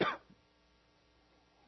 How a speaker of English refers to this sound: Excuse me, I just got a cough.